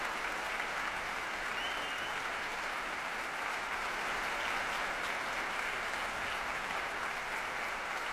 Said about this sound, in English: Applause for tonight's leader of the National Youth Orchestra, Roberto Luisi.